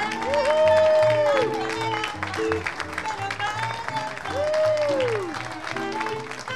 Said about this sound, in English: Veterans deplane, walk, or help in wheelchairs through the exit ramp into the airport, where a crowd is waiting to give them a spirited welcome.